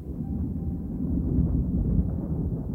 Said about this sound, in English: But none of it mattered now, because here was the thunder.